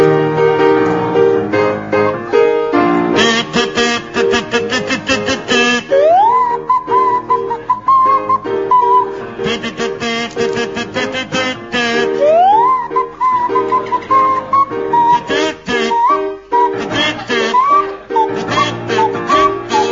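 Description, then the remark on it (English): Barry Cryer on a buzzy kazoo and Graham Garden on a sliding swanee whistle play a bouncy pop melody together, the whistle gliding up into long held notes over a steady, loud accompaniment. “it's to feature Barry Cryer on kazoo and Graham Garden on Swanee Whistle.”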